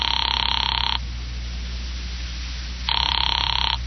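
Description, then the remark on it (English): A telephone rings down the line through the earpiece of a phone in a phone booth, a little after five: two bursts of thin ringing separated by a long pause, with no voices. “A little after five, I went to a phone booth and called my client, Fred Lane.”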